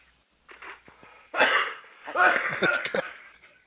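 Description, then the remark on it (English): A person coughs in the background, a short run of harsh, raspy bursts at moderate volume, some with a voiced, throaty edge, spread over a few seconds. “coughing in the background.”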